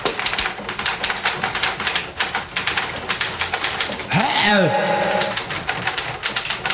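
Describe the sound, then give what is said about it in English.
Rapid, steady typewriter-style key clacks from a phone app that makes writing on the phone sound like a typewriter run continuously, briefly joined midway by a warbling, cooing tone before the quick clicking carries on. “I saw someone the other night who had an app on their phones that when they write, it's like a typewriter.”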